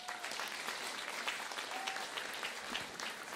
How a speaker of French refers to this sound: On peut les applaudir.